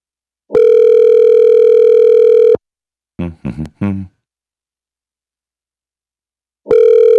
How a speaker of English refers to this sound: Let's call him. It usually doesn't ring for this long.